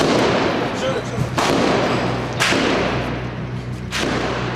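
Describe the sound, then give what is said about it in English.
Three sharp gunshots crack out at uneven intervals over a dense, rumbling wash of background noise and a steady low hum: shooting used to put down protests in Syria. “And those protests were met with force. First, shooting.”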